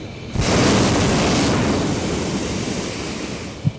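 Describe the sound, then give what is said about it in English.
A hot air balloon's propane burner fires with an abrupt, loud whooshing roar that holds steady for several seconds and fades slightly toward the end, lifting a 90-foot-high balloon higher above the Napa Valley floor on an aerial tour. No one speaks. “With each blast of propane gas, Barbaric's 90-foot-high balloon rises higher above the Napa Valley floor.”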